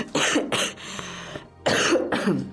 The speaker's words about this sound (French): En fait, c'est quand je ris que ça me fait tousser.